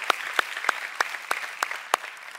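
A crowd claps for the Lord together in a steady, even rhythm, about three sharp claps per second, over a softer wash of scattered applause. No one speaks.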